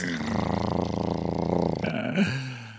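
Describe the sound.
A voice imitating a cat purring makes a rough, rumbling purr for about two seconds, a low buzzy drone with rapid fluttering pulses, then trails off into a brief lower murmur.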